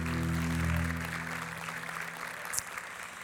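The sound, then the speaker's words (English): A crowd applauds the worship team steadily, a dense wash of clapping that gradually tapers, over a low sustained musical drone that fades out in the first couple of seconds. No one speaks. “Can we just give a round of applause to our incredible worship team?”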